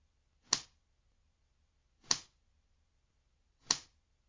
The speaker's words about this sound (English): Oh, only 4 slaps, huh? Pathetic. That won't do at all.